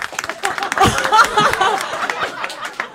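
A crowd claps in a quick, scattered burst of hand claps as straight men in the audience clap if they would like to receive a sword as a present. Some laughter and a few whoops mix in, swelling in the first half and then thinning out toward the end.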